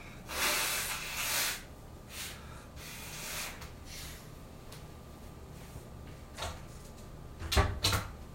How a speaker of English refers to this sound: Just gotta blow my nose first.